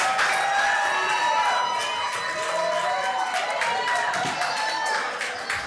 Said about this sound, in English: So they went ahead and voted, and it was 6-1, and it was a big win, and there was massive cheering. All right, motion passes 6-1.